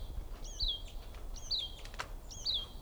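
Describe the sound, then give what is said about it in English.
A female bird about 10 feet away calls three times at an even one-second pace, each call a thin, high two-part note that rises then slides downward, over a faint low rumble with no talking. “There's also one more bird I see here. Oh, here's the female.”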